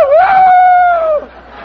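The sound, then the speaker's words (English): A man imitates a chicken with a single loud, drawn-out squawking call. The voice rises briefly, holds a steady pitch for about a second, then breaks off into quiet. “Let's see you do a chicken.”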